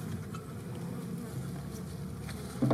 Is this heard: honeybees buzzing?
yes